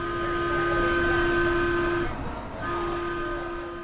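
A Metro light rail train runs on its tracks along an old freight rail line with a steady rumble and a sustained electric whine; the noise dips briefly midway, then resumes at full strength.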